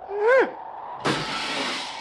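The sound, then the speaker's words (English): A short descending whistle, then a sudden loud crash as a rock slams into a car, the metallic, glassy clatter ringing on and slowly fading with no voices. “Listen how long it takes this rock to fall down there.”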